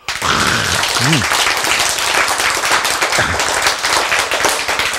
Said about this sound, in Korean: 박수!